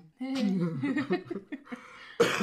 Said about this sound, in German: Ja, wie ihr hört, huste ich noch arg. Bin nicht wirklich krank, aber irgendwie habe ich seit 2-3 Wochen.